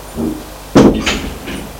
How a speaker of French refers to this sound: Elle a fermé la porte.